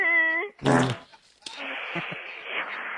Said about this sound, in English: I do not want any more fart sounds during my report. Okay. I've tried to be nice about it, tried to make a little joke about it, but I do not like flatulations.